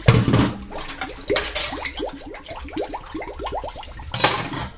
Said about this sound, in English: I'm rinsing off some dishes now to put in the dishwasher.